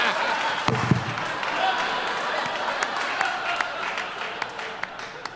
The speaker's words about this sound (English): Applaud if you've seen Equilibrium. Now applaud if you don't think it's that great.